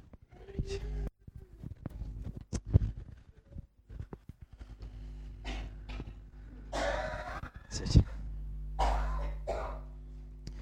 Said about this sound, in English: Here, there's one or two of us have got coughs and colds this morning, and I forgot to mention at the beginning, I mean, I'm quite bunged up myself